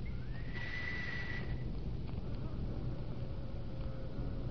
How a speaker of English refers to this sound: And the door opens. Why, that's marvelous. You see, the sound of the whistle operates an electric lock. Smart, eh?